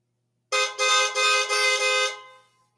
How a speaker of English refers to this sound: Miss Linda pulls in the driveway, blowing her horn like crazy.